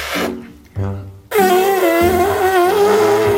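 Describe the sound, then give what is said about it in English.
Two loud, low buzzing blasts like a fart sound effect, followed by a longer wavering, horn-like tone with a wobbling pitch. “A fart is funny because of the sound.”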